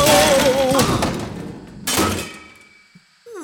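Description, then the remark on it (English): A loud, rumbling explosion of anchovies booms and fades, then a second blast hits about two seconds later and trails off into near silence. No one speaks. “What? An explosion? Exploding anchovies.”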